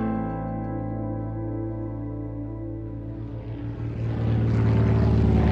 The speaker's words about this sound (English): The plane lands. Thank goodness.